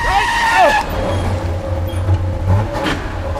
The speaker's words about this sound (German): Das Auto war im letzten Moment ausgewichen.